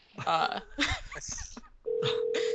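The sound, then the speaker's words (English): A person talks briefly, then a phone starts ringing with a loud, steady electronic tone that carries on without a break until the end. “well, hello there, phone.”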